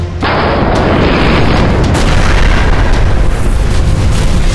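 A huge starship reactor explosion, as the shattered rear of the Theta slams into a Night Lord vessel and the reactor goes critical, bursts in after a brief moment of quiet, then holds as a loud, roaring, crackling rumble of deep bass and hiss that barely fades over several seconds.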